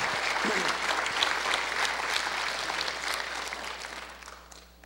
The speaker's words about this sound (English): Give God a hand clap this morning.